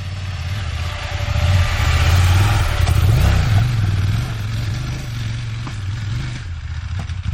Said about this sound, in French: C'est vraiment au-dessus des 5000 qu'on se fait plaisir avec ce moteur, c'est au-dessus des 5000 qu'on l'utilisera le plus souvent.